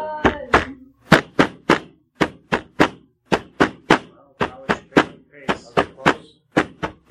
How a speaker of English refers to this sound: When you hear what sounds like, and everyone would concur, war drums. Run! It's echoing off the hills quite a bit, but it generally seems to be behind you.